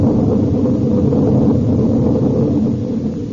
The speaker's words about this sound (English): Ah, there. There, we saw the lightning then. Now we know that thunder is coming.